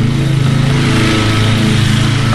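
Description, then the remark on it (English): A John Deere riding lawnmower engine drones loudly and steadily, its rough buzzing note swelling slightly as it revs while a man drives it fleeing from police, with no voices over it. “You can hear him a mile away with the noise.”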